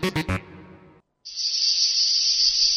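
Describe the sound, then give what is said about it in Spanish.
A cicada chirps in a steady, unbroken high-pitched buzz, loud, starting after a few short sharp hits and a brief moment of silence, in a jingle for the programme La Chicharra on UPB Radio. “La Chicharra canta cada divendres en UPB Radio a les 4 i mitja de la vesprada.”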